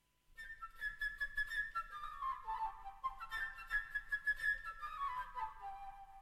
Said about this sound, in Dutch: Alle figuren die in het verhaal voorkomen zijn echt. Ze klinken alleen een beetje anders dan anders. De vogel wordt gespeeld door een fluit.